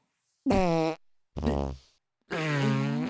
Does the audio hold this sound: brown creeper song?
no